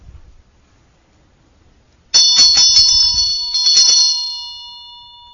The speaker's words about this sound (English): So I'll ring the bell again, and you can just follow the sound and let it take you wherever it takes you, really.